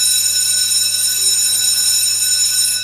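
A school bell rings loudly and without a break for the whole stretch, a steady, shrill metallic tone with bright high overtones. No voices are heard.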